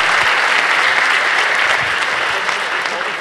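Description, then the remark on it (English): An audience applauds steadily, a dense wash of many hands clapping at once, loud and sustained without a break, as FX and FOBS from ReSecurity Labs are introduced for a talk on port scanning. “Give them a big round of applause right now.”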